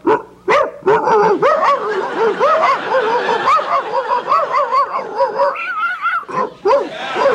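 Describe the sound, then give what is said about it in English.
A person imitates two dogs fighting, producing a continuous, frantic stream of growls, snarls, yips and barks that overlap and clash, loud for several seconds with no spoken words. “Okay, here's my imitation of two dogs fighting, eh?”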